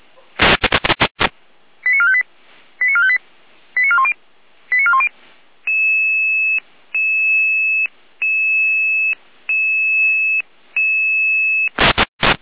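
An emergency radio alerting tone sequence calling out Red Cross rescue units in Saalfeld, Germany: a burst of static, four short warbling chirps, then five longer steady tone pulses with brief gaps, ending in another static crackle. Loud and clear, with no voices.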